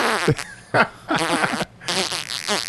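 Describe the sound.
A voice imitates a dog's watery defecation outside, an inch from a person's foot, with a run of wet, sputtering, fart-like bursts, buzzy and uneven, separated by brief pauses, with no other talking.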